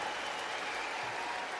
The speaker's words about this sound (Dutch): Zou ik voor hem alsjeblieft een heel hard applaus mogen?